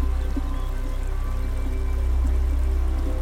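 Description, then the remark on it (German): A steady, continuous rush of flowing river water with a deep, rumbling low end, holding an even level throughout with no voices. “Wir bedanken uns nochmal bei dem Fluss für die Kraft, die wir bekommen haben und die Reinigung.”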